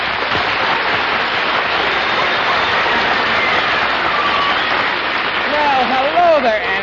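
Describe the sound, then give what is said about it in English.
A radio show audience applauds as master of ceremonies Art Linkletter is introduced, in a dense, steady wash of clapping that holds at an even loudness throughout, with a voice starting to come through just as it ends. “Thank you for the generous applause.”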